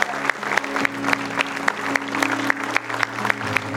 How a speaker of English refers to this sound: Come on, keep clapping.